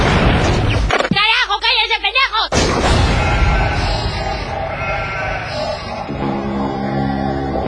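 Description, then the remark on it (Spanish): A single sheep bleats loudly in a long, wavering cry lasting over a second. A dense, noisy wash of sound follows it, and steady tones come in near the end. “Todas las ovejas se parecen.”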